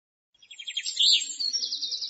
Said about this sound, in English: What's that? Is it a jet? No, it isn't. It's a bird. It's a big bird.